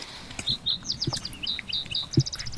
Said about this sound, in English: That's the towhee. Two or three single notes followed by a trill. It's in inverted Beethoven's. Da-da-da-da, dot, dot, dot, dot. So it's an easy way to remember it.